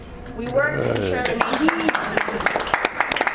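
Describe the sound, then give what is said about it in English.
Audience applause at a gathering of a water protection network breaks out, starting with some voices and cheering before dense, scattered clapping builds and fills the room for the rest of the moment. “So we all deserve a round of applause for that.”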